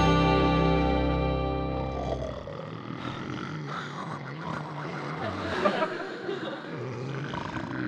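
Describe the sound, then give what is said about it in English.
Three men snoring at once in a bed in a loud, overlapping chorus: a low droning buzz at first, then a continuous tangle of raspy, gurgling snorts and rumbles with no talking. “How can a guy sleep in this bed with these three guys snoring?”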